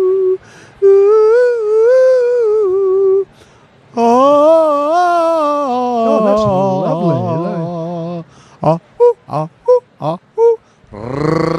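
A person in Camden, New Jersey runs through a vocal warm-up before a show to relax the vocal cords: long, loud howling voice glides that swoop up and down in pitch, followed by a burst of short, choppy vocal syllables.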